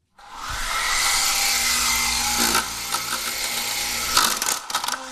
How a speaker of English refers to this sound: And that's my remote-controlled airplane helicopter.